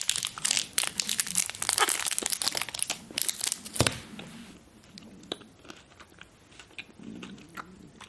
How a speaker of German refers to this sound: Tut mir leid, ich muss die Schokolade kurz essen. Die ist schon wieder am Fressen.